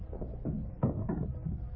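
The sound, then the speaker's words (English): Two dull wooden knocks close together as someone bumps into a chair in a darkened living room, scraping it slightly, set against a low rumbling background with no voices. “Oh, that chair. I have to get out of here quick.”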